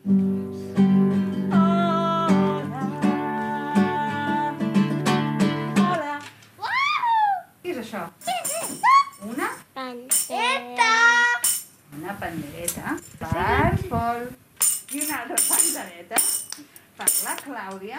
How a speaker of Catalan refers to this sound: Els acords de la guitarra i l'alegria dels infants omplen la sala.